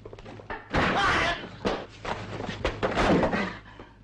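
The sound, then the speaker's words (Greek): A door is banged and shoved repeatedly, with a series of loud thuds and slams arriving in an uneven rhythm as it is forced open. “Άνοιξε αυτή την πόρτα με μια μου λέξη. Όχι εσύ, εγώ την άνοιξα.”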